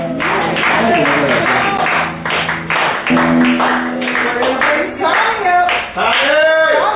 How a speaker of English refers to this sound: I'd like to say in advance, thanks for clapping because I'm recording this performance and I already have a lot of tape to my show where I bomb. I appreciate that.